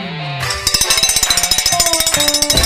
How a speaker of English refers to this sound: Breaking out the cowbell here today on Bob, bringing the cows in.